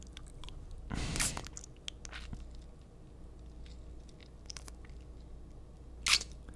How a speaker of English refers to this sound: When I bite and suck so hard it bruises, a doll wouldn't squirm, right?